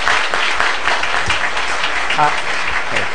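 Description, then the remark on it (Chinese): A crowd applauds steadily for a few seconds on Mother's Day, clapping for the mothers standing up to show gratitude; many hands clapping in a dense, even wash of sound that stays fairly loud throughout, with faint voices mixed in. “咱做囝儿吼，甲妈妈拍脯啊，表示咱的感恩吼。”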